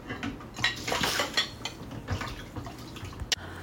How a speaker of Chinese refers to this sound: 对，我在洗碗呢。